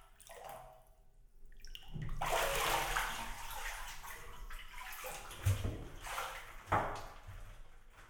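Water sloshes and splashes as someone rises out of a hot bath to sit on a bath stool, with a broad rushing surge followed by a few heavier splashes and dripping, no voices.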